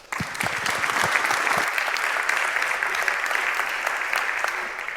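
An audience breaks into sustained applause, a dense, steady wash of many hands clapping that starts abruptly and holds at a loud, even level for several seconds.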